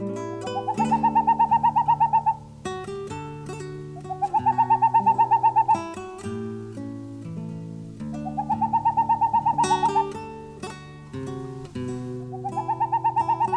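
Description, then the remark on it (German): A boreal owl calls in four rapid, staccato runs of hollow hoots, each lasting a couple of seconds and separated by short pauses, heard clearly over a soft musical background. “Das war der Raufußkauz.”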